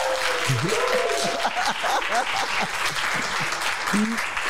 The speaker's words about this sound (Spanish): Y mira qué bonito aplauso de nuestra gente.